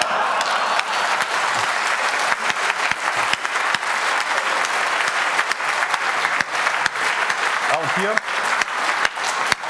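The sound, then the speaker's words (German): An audience claps steadily, a dense, continuous wash of applause lasting the whole stretch, with a brief voice surfacing faintly underneath near the end, while a computer's hard-disk password is disabled in the BIOS, saved and the computer restarted during a demonstration. “Hier wurde jetzt gerade, als ihr geklatscht habt, das Passwort gedisabled, gespeichert und neu gestartet und tatsächlich kommt man jetzt an den Rechner ohne das Passwort.”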